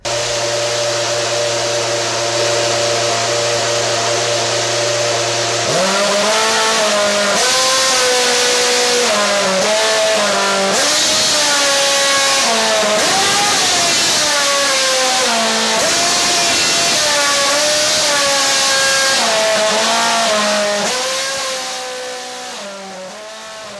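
A loud race car engine revs up and down in stepped pitches, its harmonic whine tracing out the Happy Birthday melody over about twenty seconds, with a steady idle drone at the start.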